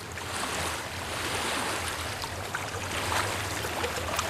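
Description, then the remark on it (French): Ocean waves wash in steadily with a broad, hissing roar, the surf continuous, with no voices present; the opening of the feature film Aya, set on a small sand island off the coast of Côte d'Ivoire. “Simon Coulibaly-Gillard, votre long métrage Aya débute avec ces vagues, avec ce bruit de vagues et puis des enfants qui jouent.”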